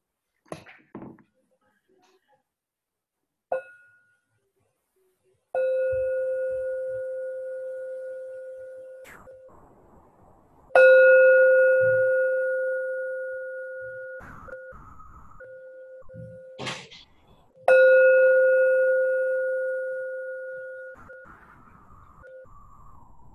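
A bell is struck three times at unhurried intervals, each strike ringing out in a clear, sustained tone that slowly fades. It is loud, preceded by a few soft knocks.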